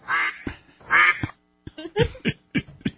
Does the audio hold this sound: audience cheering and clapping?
no